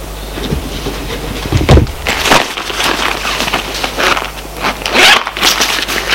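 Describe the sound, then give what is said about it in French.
A bag is unzipped and pulled open by a woman sitting at a desk, with a quick rasping zip followed by crinkly rustling and soft handling noises over a low steady hum, no voices. “Ouvre son sac.”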